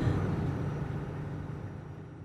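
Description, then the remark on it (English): Steady low engine rumble of idling heavy trucks at a truck stop on I-80 west of Des Moines, a constant droning hum with faint road noise, even throughout, with no voices. “pulling off and sleeping for a while at a truck stop on I-80 west of Des Moines”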